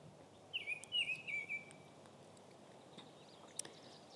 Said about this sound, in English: I wanted you to hear some of these birds first, including the orioles.